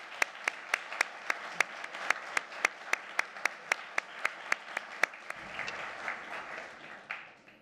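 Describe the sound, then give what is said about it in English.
A short round of audience applause at UNH honoring a faculty member and all the other faculty: sharp, evenly spaced claps beat steadily over a wash of crowd clapping for about five seconds, then loosen into a softer scattered patter as it fades. “I'm not going to ask him to stand up for applause, but I would like you to give him a short round for himself and all the other faculty that make UNH the school that it is.”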